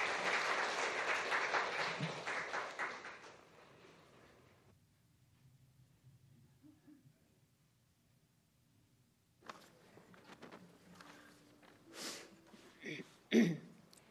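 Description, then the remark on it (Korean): A church audience claps steadily for about four seconds to welcome a deaconess coming forward to give a Bible-reading testimony, the dense applause tapering off into near silence, followed later by shuffling, a few throat clears and faint movement. “박수로 환영하겠습니다.”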